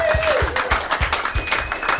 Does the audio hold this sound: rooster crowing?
no